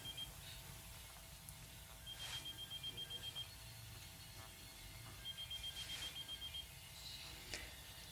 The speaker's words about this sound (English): So she finally has seen that there's another phone, just like the one that Beth had. It's pink, and it's ringing.